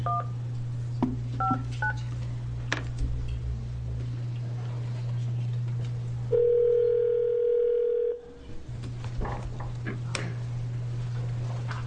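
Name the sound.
telephone keypad dialing tones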